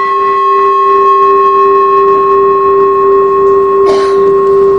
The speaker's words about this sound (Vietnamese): Chuông là không có thỉnh ngang về, thỉnh như vậy là mình lật cái chuông, mình hất cái chuông lật á, thỉnh xéo vậy nè, để mình đưa cái tiếng chuông nó đi lên, phát cái tiếng chuông nó lên.